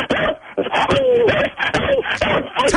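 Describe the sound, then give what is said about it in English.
A dog, Buster, barks rapidly and repeatedly during a barking contest on Bark Off for Cash, mixed with high-pitched squeals and whimpers, loud, in an excited, continuous burst with barely any pause; about 27 barks are counted. “Were you able to hear any of them between the squeals there? I counted 27 barks.”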